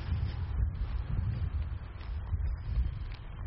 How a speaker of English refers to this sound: And we've crossed under the road. I can hear the trucks behind me.